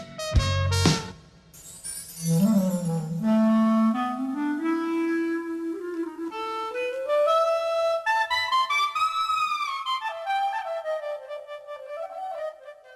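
Recorded instrumental music plays, opening with a sharp struck note before a smooth, singing melodic line climbs steadily higher and holds, fairly loud and steady, with no voices.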